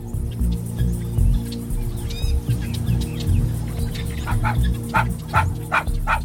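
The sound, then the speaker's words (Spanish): A small Chihuahua yips and barks in a rapid series of short, sharp bursts, with a few thin whining whimpers mixed in, over a steady low background hum. “Un cazador viajó a África y llevó a su perrito Chihuahua para no sentirse tan solo.”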